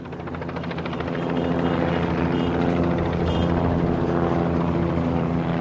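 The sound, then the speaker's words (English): Helicopters and planes drone loudly overhead, circling the Rangers ballpark in Arlington as fans stream out of Cowboys Stadium just down the street. The rotor throb is steady and continuous, swelling slightly after the first second and then holding. An aircraft engine hum blends into the roar, with no voices. “Fans streaming out of Cowboys Stadium are greeted by helicopters and planes circling the Rangers ballpark in Arlington, just down the street.”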